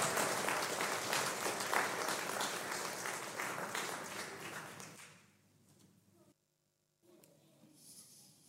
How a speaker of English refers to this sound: Can we give the boys and girls a really big round of applause?